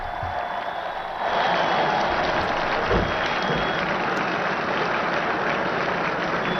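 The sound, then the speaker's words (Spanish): A large crowd of pilgrims applauds steadily as the Pope appears at his window on the feast of the Assumption, a dense wash of many hands clapping that swells louder after the first second and holds at a constant level with no voices standing out. “Los aplausos de los peregrinos.”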